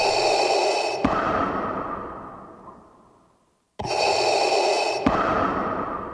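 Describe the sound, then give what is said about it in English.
Loud mechanical breathing through a respirator: a long hissing inhale, a click, then a slow rasping exhale fading out, followed by another inhale starting the cycle again. No voices. “That breathing became Vader's menacing signature.”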